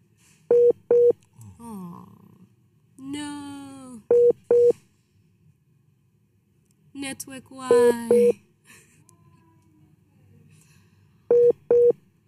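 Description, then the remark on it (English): After a phone call drops, a phone line tone repeats in steady pairs of short beeps every few seconds, loud. Between the beep pairs, garbled voices come through faintly, as if over a broken connection. “Okay, see, now we're just looking at the phone, hoping that it'll come back, and it's not. So we kind of lost her there.”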